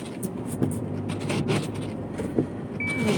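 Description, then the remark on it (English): A car pulls out of the driver's own driveway, its low engine rumble and tyre noise steady, with a few soft bumps and a brief high seatbelt-reminder chime near the end. “Oftentimes I get stuck pulling out of my driveway. Not today.”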